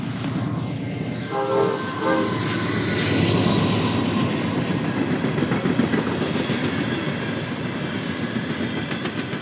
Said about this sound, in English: Here comes the train. This is Norfolk Southern, main line.